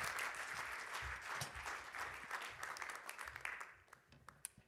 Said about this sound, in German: Geben wir doch einmal einen grossen Applaus.